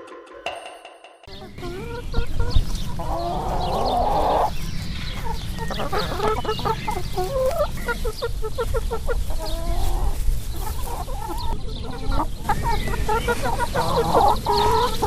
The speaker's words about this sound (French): Oui, oui, ce sont bien des poules que nous entendons.